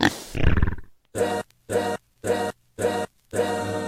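A pig grunts and oinks in five evenly spaced, harsh bursts after a short noisy opening, each call brief and loud with silence between.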